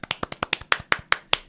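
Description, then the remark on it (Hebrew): Hands clap in a quick, steady rhythm, about eight sharp claps, getting slightly louder toward the end, with no talking. “רגע, כפיים.”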